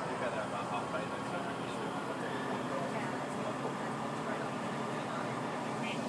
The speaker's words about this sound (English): These trains are so noisy, these sort of turbo stars, sprinter type things. I don't know quite what you're meant to call them.